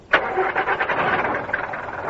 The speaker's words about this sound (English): Engine.